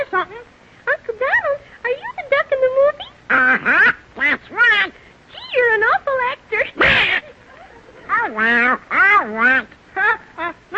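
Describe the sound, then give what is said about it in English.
A raspy, squawking Donald Duck cartoon voice jabbers in quick, quack-like bursts for several seconds, loud, with brief pauses between garbled phrases. It is a human voice imitating a duck. “Hey, kids, how about saying hello to Donald Duck?”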